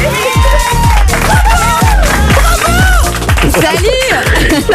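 A studio audience cheers and whoops loudly and without pause, shrill voices rising over a steady, thumping rhythm for the whole stretch.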